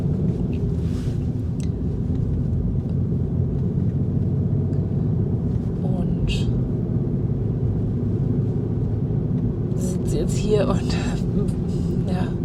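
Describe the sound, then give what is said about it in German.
A steady, heavy low rumble of a car's engine and tyres on the road fills the cabin for the whole stretch, droning evenly, with faint higher rattles now and then, heard from inside the car. “Ich sitze im Auto und habe mein Ansteckmikrofon dabei.”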